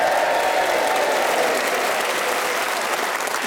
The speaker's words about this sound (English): Listen to that organic cheer, which they did of their own volition and not because I raised my hand and looked at them pleadingly.